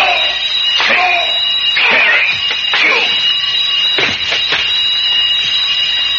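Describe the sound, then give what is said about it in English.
A loud, continuous alarm bell, set off by a man during a holdup, rings with a steady metallic jangle through the whole stretch, with sharp bursts of commotion cutting in over it. “He's turning in an alarm.”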